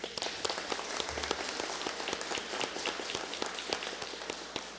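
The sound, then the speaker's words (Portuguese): A crowd breaks into steady applause, many hands clapping densely together for several seconds, with a few sharper individual claps standing out and no voices heard, applauding a person who has long worked alone in the centre of Vila de Bujuru. “A gente está falando de autoridades eleitas, políticos e aqui servidores públicos, mas também tem que elogiar o teu trabalho e dar uma salva de palmas a ti.”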